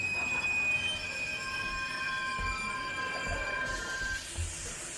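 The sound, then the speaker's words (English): A train's wheels screech in shrill, sustained squealing tones over a heavy, steady rumble, loud, before the squeal cuts off near the end as it grinds to a sudden halt. “Dreams of vagrant Parises and boysenberry pies cooling on the great windowsill in the sky are suddenly dispelled when the train screeches, as trains do, to a sudden halt.”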